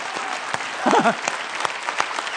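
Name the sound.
weak applause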